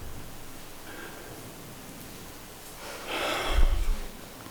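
A faint breath in, then a louder, rushing deliberate exhale, with no talking over it and a soft background hiss.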